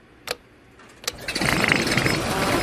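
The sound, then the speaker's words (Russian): An overheated car's engine at a car service garage: two sharp metallic knocks ring out, then a rough, wheezing engine noise swells up and keeps rasping steadily, loud and ragged, with no voices. “Ой, как она хрипит и стучит.”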